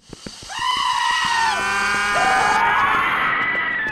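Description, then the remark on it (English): At least four people scream together in a loud, sustained, overlapping chorus, pitches sliding and wavering, preceded by a few sharp knocks and continuing for several seconds. “That's at least four people! And inhale. And scream.”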